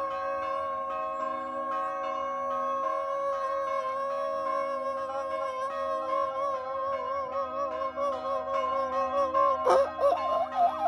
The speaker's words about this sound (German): Hier zum Beispiel funken gerade mal ein paar Kirchenglocken in die Filmaufnahmen.